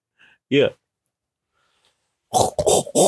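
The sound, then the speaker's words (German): A short, low pig grunt sounds once, then after a pause come three harsh snorting grunts in quick succession, fairly loud and with no talking. “Was ist das denn für ein Schwein?”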